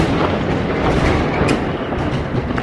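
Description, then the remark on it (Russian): A loud, continuous roll of thunder rumbles low and heavy for a few seconds, with no pause and no voices, during a thunderstorm with lightning, the thunder recurring about every minute. “Вот, видите, это был опять гром.”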